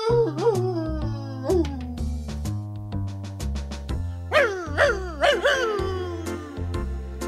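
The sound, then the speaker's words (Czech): Several short, rising-and-falling dog howls, apparently voiced by a person imitating a dog howling like a jackal, over a steady musical accompaniment with sustained low notes. “Tenhle náš pejsek vyje tu jak šakal.”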